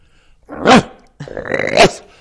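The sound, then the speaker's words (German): A person voices two harsh, raspy barks imitating a water deer's alarm call, the first short and rising, the second longer and grating, with no other sounds. “Der Schrecklaut des Wasserrehes ist ein harsches Bellen.”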